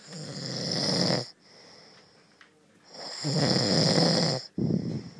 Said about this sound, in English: Okay, this is how loud he snores.